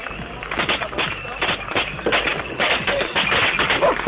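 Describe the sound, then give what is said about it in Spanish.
Fireworks explode in Villa María del Triunfo, Lima, in a rapid, uneven string of sharp pops and crackles, bursting one after another over a steady background rumble with no clear talking. “No, ahí están los fuegos artificiales.”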